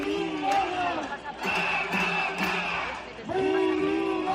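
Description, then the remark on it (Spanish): A crowd of thousands of teachers in green shirts with banners, protesting over pay at Río de la Pila in Santander, Cantabria, at 5:30 in the afternoon, chanting together in loud, rhythmic bursts, voices rising and falling in repeated slogans with whistles or shouts mixed in, dense and continuous throughout. “5:30 de la tarde en el Río de la Pila, camisetas verdes, pancartas y la voz de miles de profesores vuelve a sonar en Santander.”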